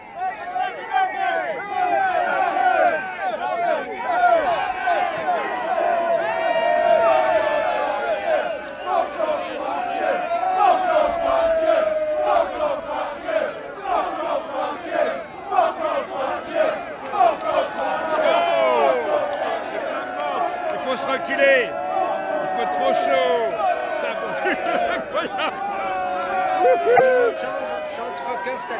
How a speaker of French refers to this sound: On jette des objets. On lève le poing, on crie.